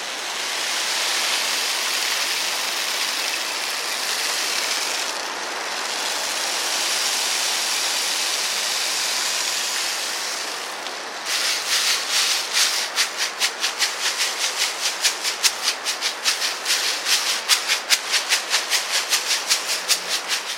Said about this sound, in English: We have the rain stick. Now, the rain stick will complement the lovely sounds that are happening right now in the caves.